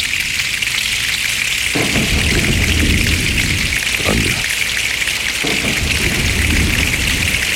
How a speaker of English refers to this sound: It's amazing the sound that can be generated when hundreds of people are doing the exact same thing. Yes. There they are, snapping their fingers.